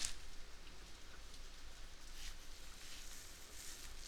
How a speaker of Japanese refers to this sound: それにしても、最近は雨が多いよね。